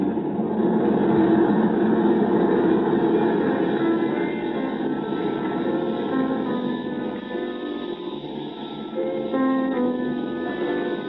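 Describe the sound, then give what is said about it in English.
A steady, loud engine drone fills a pressurized airliner cabin in flight at 23,000 feet, a dense, continuous rumble that holds nearly level throughout, with faint tonal hums riding on top. “They don't waste much space on corridors in these airplanes.”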